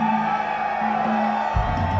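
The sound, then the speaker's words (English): A large concert crowd cheers and whoops steadily, a dense, continuous roar of many voices that holds at the same level throughout, with a faint sustained tone humming underneath. “Are you guys just cheering or are you coming?”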